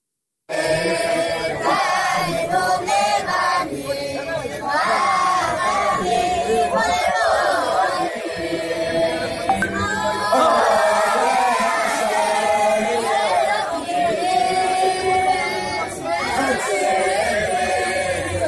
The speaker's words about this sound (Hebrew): בוא נשמע את הילדים שרים לליברמן.